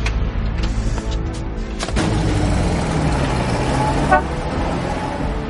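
An old Buick car drives by with a steady, rough engine rumble, a couple of short horn toots sounding early on before the motor carries on alone.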